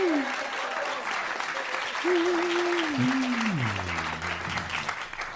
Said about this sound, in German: Also, jetzt nochmal euer Applaus für den dänischen Bon.